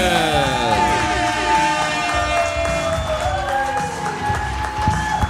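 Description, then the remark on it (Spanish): A crowd claps and cheers loudly and steadily to welcome a guest, with bright whoops and sliding tones rising over the dense wash of applause throughout. “Fuerte aplauso”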